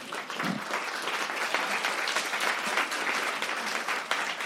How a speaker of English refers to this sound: How many of those people just then were intimidated into clapping? There was a lot of people who were like, we love this.